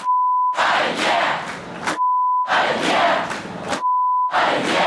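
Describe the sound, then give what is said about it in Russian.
A large concert audience chants the pacifist slogan "No to war", at times in a cruder wording, in loud, rhythmic bursts, three shouted phrases in a row, each separated by a steady, high-pitched censoring beep. “Пауза, и зал подхватывает пацифистское «Нет войне», временами в более откровенной формулировке.”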